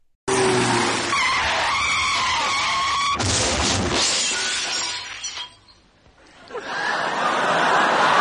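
A car's tires screech in a long, loud skid in a road accident after a failure to yield right of way, then a sudden crash of shattering glass and crunching metal, followed by a brief lull and a rising rush of noise.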